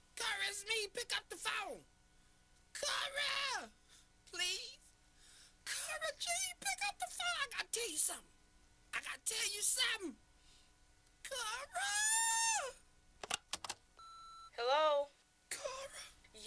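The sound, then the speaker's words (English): A person cries and wails in a series of loud, drawn-out bursts that rise and fall in pitch, with brief gaps between each sobbing outburst. “I'm crying. Can't you hear me?”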